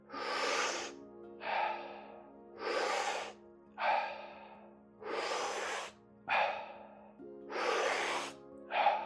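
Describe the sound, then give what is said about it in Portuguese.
Slow, steady breathing, alternating airy inhales and exhales in an even rhythm, about eight breaths heard one after another with short pauses between them, following spoken instructions in a guided breathing exercise. “Inspira, expira. Para dentro, para fora. Para dentro, deixa ir.”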